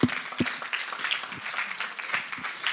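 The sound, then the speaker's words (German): A crowd at a church service in Berlin applauds steadily to thank helpers who came back early from a retreat to make the service possible, many hands clapping in a dense, crackling wash that holds at a moderate level throughout, with a few sharper individual claps standing out near the start. “Ich würde sagen, wir klatschen nochmal richtig, oder?”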